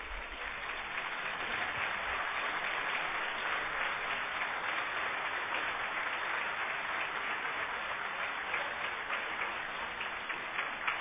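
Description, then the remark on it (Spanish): Sustained applause from a crowd, a dense, even patter of many hands clapping at steady loudness for about eleven seconds, with no voices standing out. “Un fortísimo aplauso.”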